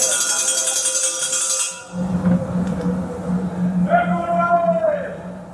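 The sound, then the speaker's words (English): Prison wing ambience recorded on the wings of HMP Brixton, London's oldest prison: metallic ringing and clatter at first, then a steady low hum under murmuring voices, with a brief wavering tonal call near the end. Sounds include food being served, people socializing and radios playing in cells. “These recordings were made on its wings by the Prison Radio Association, a charity.”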